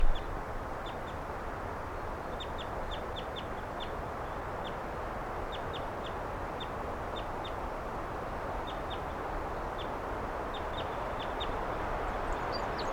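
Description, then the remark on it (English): Wild birds, some right by the microphone next to a car, give quick, high chirps in small bursts throughout, over a steady rushing background noise. There is no talking. “Wild bird.”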